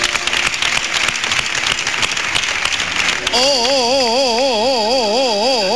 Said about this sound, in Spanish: un fuerte aplauso a don Manuel